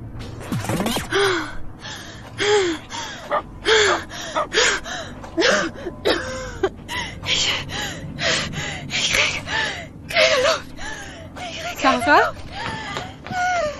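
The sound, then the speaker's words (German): A person gasps for breath over and over during an allergic attack, a rapid series of loud, strained inhalations with wheezy, squeaky vocal edges, continuing in uneven bursts without any spoken words. “So eine Allergie ist schon eine lästige Sache.”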